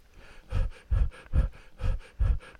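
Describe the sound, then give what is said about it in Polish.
Heavy, rhythmic breathing during a medical examination as a doctor tells the patient to breathe: six deep, noisy breaths with broad airy bursts, evenly spaced about every half second, with no talking. “Oddychać.”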